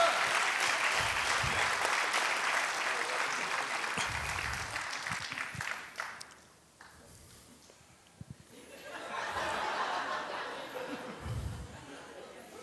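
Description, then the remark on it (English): An audience claps steadily in a dense, loud burst that fades out after about six seconds, then swells again more softly, with scattered chatter and a little laughter mixed in. “Come on, can we clap?”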